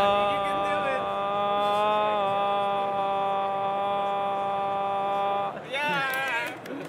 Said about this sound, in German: Mitten in dem ganzen Soundchaos versucht da jemand, einen Ton zu summen.